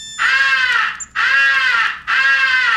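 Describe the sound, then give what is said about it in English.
A highball crow call blown on a handheld crow caller: three long, loud, drawn-out caws in quick succession, each buzzy, harsh and clear, with no talking. “The highball crow call is sometimes advocated for attracting the attention of distant crows.”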